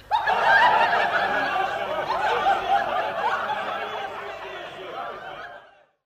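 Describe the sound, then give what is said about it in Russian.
A noisy, merry crowd of Berendeys hauling a sleigh with a straw effigy to see off Maslenitsa fills the air with overlapping laughter and chatter, a dense steady din that holds for about five seconds before cutting off. “Шумит толпа веселых бериндеев. Везут они сани с соломенным чучелом, провожают масленицу.”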